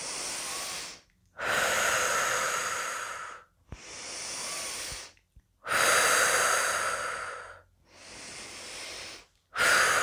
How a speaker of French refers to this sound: Nous nous préparons maintenant pour la désophronisation. Nous prenons quelques grandes inspirations.